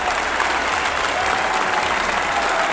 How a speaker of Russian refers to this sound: Это все в вашу честь. Это в вашу честь. Спасибо. Мы аплодируем. Мальчики кончили аплодировать, все, завязали.